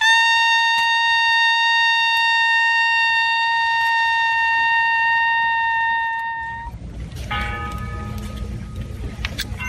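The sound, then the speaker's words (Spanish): A shrill cornet sounds one long, steady, piercing note for several seconds, loud, calling to prayer, silence and recollection at the hour recalling the death of Jesus, before it breaks off into a low rumble of outdoor crowd noise. “A esa hora en punto, un agudo cornetín llama a la oración, al silencio y al recogimiento, mientras que a lo lejos se deja escuchar, aprovechando un antiguo privilegio, la campana de la parroquia de San Cecilio.”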